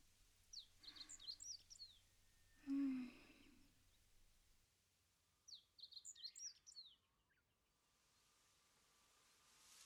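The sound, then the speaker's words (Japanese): Small birds twitter at a campsite in two quick bursts of high chirps, with a short, lower bleating call between them, against a quiet outdoor background with no talking. “目を閉じて、風や水の音、小鳥のさえずりなんかを聞いていると、それだけですごくリラックスする。”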